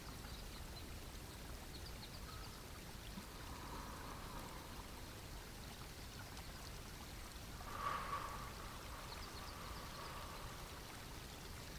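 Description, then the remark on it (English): A soft, continuous babble of water from a small spring-fed stream, steady and fairly quiet throughout, with a slightly brighter splash near the end and no voices. “Rise up again to standing and notice that you hear the sound of water burbling. Look around and find the source of the sound, a spring-fed stream.”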